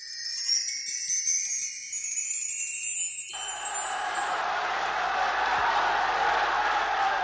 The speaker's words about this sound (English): Prisoners cheering, drowning out the voice of Pope John the 23rd as he speaks to them behind the bars of a Roman prison. It was Christmas 1958, and in an unprecedented gesture, a pope was standing in their midst offering them words of comfort.